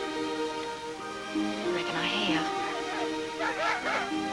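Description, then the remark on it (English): Hound dogs bay in long, wavering howls that rise and fall as they run a fox to ground, a few voices overlapping over a steady low background hum. “I said them hound dogs run the fox to ground.”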